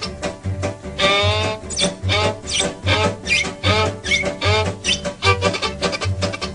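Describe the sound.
A train's wavering, high whistle blows back in answer in repeated wailing bursts over a steady, rhythmic low chugging pulse, loud throughout with no talking.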